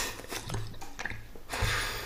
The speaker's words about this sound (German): Tropf. Tropf.